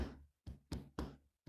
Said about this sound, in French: On peut maintenant entendre un bruit sourd et régulier qui vient du fond des temps. C'est le battement du cœur de la louve.